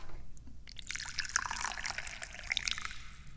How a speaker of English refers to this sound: And the first thing we always do is pour the tea, innit?